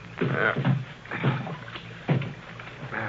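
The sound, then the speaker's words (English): Paddle strokes from someone paddling a small boat across a flooded valley dip and swish through water in a steady, unhurried rhythm, each stroke a soft splash, with no one speaking. “Senor, you will make the boat go, eh? Huh? Oh. You want me to paddle? All right.”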